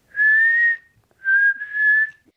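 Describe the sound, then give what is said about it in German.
A person whistles in steady, clear tones imitating a songbird: one long held note, a short pause, then two more connected notes, fairly loud, with no talking. “Wenn er eigentlich Singvogel heißt, dann müsste der ja auch so pfeifen oder singen.”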